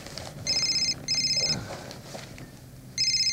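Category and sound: signal or alarm, telephone ringing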